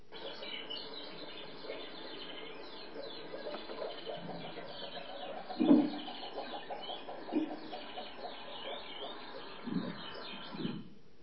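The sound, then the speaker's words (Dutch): Moor frog males calling on heathland, a series of soft, low, bubbling woofs arriving in short scattered bursts over a steady hissing background, with a few slightly louder calls standing out. “Dan komt van onderuit de heide, onder de modder, komt dan de heidekikker. En dan zorgt hij gelijk voor het nageslacht.”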